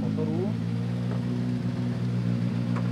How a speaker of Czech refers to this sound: Vám, že si užívají i diváci a já už slyším další burácení motorů.